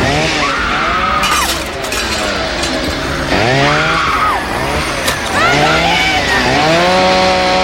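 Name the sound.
chainsaw running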